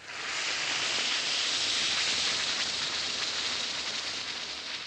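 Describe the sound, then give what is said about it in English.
Alka-Seltzer tablets fizz steadily in a glass, a dense, bright crackling hiss of bursting bubbles that holds at an even level for several seconds, with no voices. “Yes, it's action in the glass, changing Alka-Seltzer tablets into the liquid form your system can use easily.”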